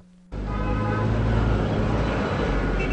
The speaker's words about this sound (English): The traffic in Lagos is a testament to the deteriorating state of Nigeria. Almost none of the streetlights function. Millions of cars, buses, trucks, and scooters move each day in a blaring scrum across crumbling bridges and deeply pitted roads.